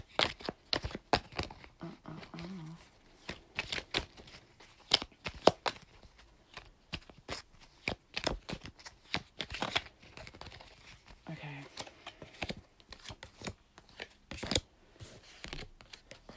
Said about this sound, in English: You can make a wish right now, because I'm shuffling the cards and I'm thinking about your future and your fortune.